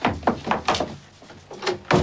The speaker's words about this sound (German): Der junge Mann tritt ins Haus und schließt die Tür hinter sich.